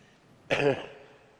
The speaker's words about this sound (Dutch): Ik ben enigszins hoestend, dus ja, dat moet u me niet kwalijk nemen.